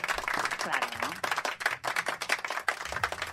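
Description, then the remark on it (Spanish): A burst of applause from a crowd, dense rapid clapping that stays loud and steady throughout, with faint voices mixed underneath. “¿cómo ha sonado esto, Sí, después de esto se pone un aplauso, ¿no?”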